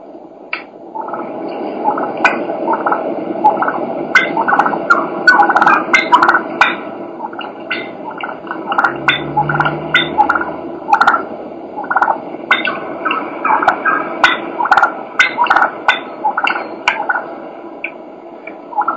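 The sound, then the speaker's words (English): A wild turkey hen clucks in quick, irregular bursts over a steady rolling purr, fairly loud, with no talking throughout. “This is a hen just clucking and purring.”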